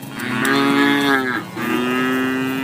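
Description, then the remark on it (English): A dairy cow of Missouri dairy farmers moos loudly in a long, low, droning call that breaks briefly partway through and then carries on steadily. No one speaks. “Missouri dairy farmers, love issues, etc.”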